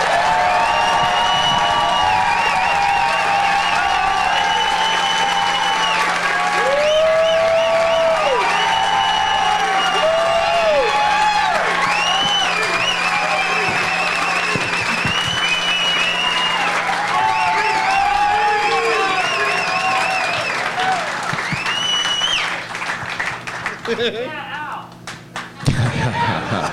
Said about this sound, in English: There's a lot of chanting for Ari, and then finally a yeah, Al.